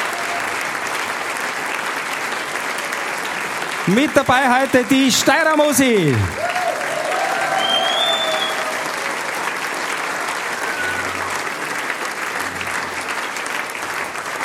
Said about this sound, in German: Das ist ein Applaus.